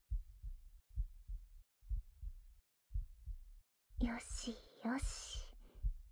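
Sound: fast heartbeat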